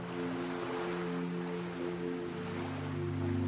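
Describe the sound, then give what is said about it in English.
Ocean waves wash steadily ashore in a soft, continuous surf, blended with a sustained low humming drone underneath, with no one speaking. “Allow those waves to gently wash over you, and as they do, they'll wash away any negative feelings or worries.”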